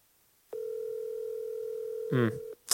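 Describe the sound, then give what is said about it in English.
A single steady ringback tone from an outgoing phone call, which goes unanswered, sounds for about two seconds and then cuts off, with a brief murmur of a voice just before it ends. “Would have been great if he picked up the phone.”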